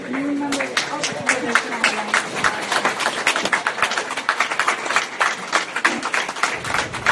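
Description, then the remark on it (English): Dozens of volunteers applaud steadily as a new vanload of recently released migrants arrives at Catholic Charities' operation at the Sacred Heart Church in McAllen. Dense, sharp hand claps run through the whole stretch while a few voices call out and chatter underneath. “Dozens of volunteers stop and applaud every time a new vanload of recently released migrants arrives at Catholic Charities' big operation at the Sacred Heart Church in McAllen.”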